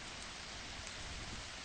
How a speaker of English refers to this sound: It's always raining at this bus stop, where Clark Street bisects Woody.